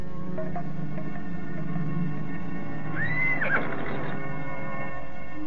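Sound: horse neighing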